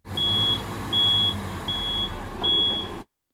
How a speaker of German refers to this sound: Ist das ein Müllauto, was rückwärts einparkt? Oder? Digga, ja.